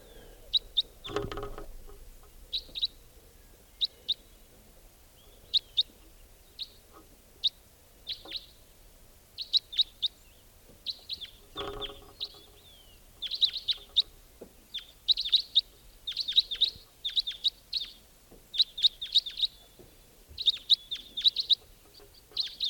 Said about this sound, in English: Wild white-winged crossbill there.